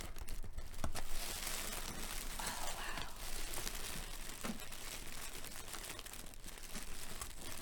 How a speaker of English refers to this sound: We can get that open. Nice. Okay. So it seems like they have it wrapped in some purple wrapping paper.